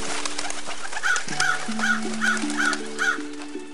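A crow caws repeatedly at a steady rhythm, about six harsh calls, over a sustained low musical drone and a faint hiss, with no voices; it is the raven Noah releases from the ark's window.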